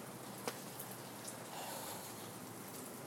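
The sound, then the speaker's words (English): Light, steady drizzle of rain outside in cool, nippy weather, hissing softly, with a few scattered drops ticking. The patter stays even and quiet throughout, and no one speaks. “So it's just the rain, it's drizzly, and I'm not gonna actually go stand out in the rain.”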